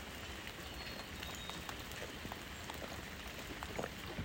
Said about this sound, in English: It is raining. You can hear it, right? I am getting wet.